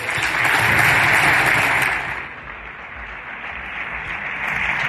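Sustained audience applause for Messi at an awards ceremony fills the space, a dense wash of clapping that swells loudly at first, dips slightly midway, then builds again toward the end with no voices over it.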